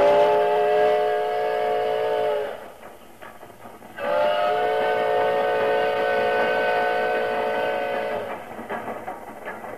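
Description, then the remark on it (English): A steam locomotive in the CBS Radio Workshop production The Ballad of the Iron Horse sounds two long, loud whistle blasts, the first about two and a half seconds and the second about four, over a steady rumble and clatter of the moving train. “Oh, he puffed and he panted, this old iron horse.”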